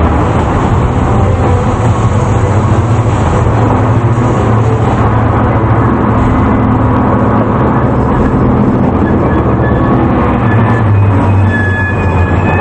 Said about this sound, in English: Top of the second train lie flat as the train enters a tunnel and begins to slow down.